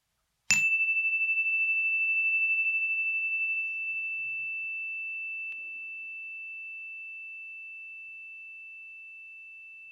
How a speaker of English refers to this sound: We'll begin and end this meditation by bringing our awareness to the full length of the sound of a chime.